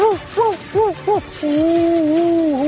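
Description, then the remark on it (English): Bill Walton imitates a hawk call with his voice as a sound effect for the XFL's Battle Hawks during a basketball broadcast: four short, rising-and-falling cries in quick succession, then one long, wavering screech, loud with no other talking. “Bill Walton decided to make a sound effect for every XFL team during a basketball broadcast over the weekend.”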